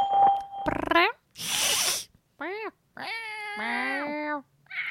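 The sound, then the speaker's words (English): Someone imitates a cat meowing during a Skype call test, a short rising meow and then a long, drawn-out wavering one, loud, following a brief steady beep and a breathy hiss. “Our actual cat is looking at us like, what are you saying? That is so rude.”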